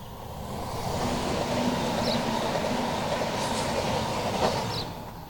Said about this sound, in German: Und neben uns ist dann noch gerade die Bahnlinie. Warte, jetzt kommt gerade der Zug in 20 Sekunden. Also zwischen Gürbe und Bahnlinie, wie man jetzt gerade gehört.